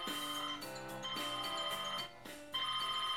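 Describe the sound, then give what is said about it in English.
A mobile phone rings with an incoming call, its ringtone a bright, melodic electronic tune played loudly, the notes shifting in short repeated phrases while the phone vibrates, with no voices present. “As I ponder that thought, my phone once again begins to make noise and vibrate.”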